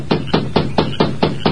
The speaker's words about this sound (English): The masked man made his way through the darkness to the lighted bunkhouse. Then, with Dobbs close by, he rapped on the door.